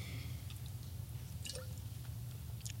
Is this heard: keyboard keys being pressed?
no